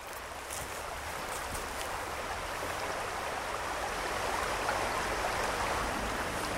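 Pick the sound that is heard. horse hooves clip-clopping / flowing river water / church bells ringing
flowing river water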